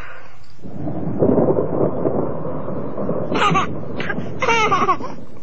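thunderstorm with rolling thunder

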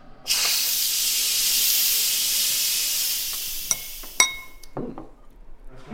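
pressure cooker releasing steam

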